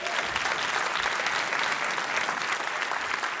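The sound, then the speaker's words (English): Audience applause fills the whole stretch, a dense, steady patter of many hands clapping at an even loudness with no voices rising above it. “Yeah, round of applause for”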